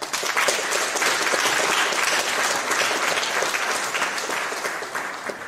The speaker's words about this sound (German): Und ich glaube, das ist ein kleiner Applaus jetzt hier nochmal.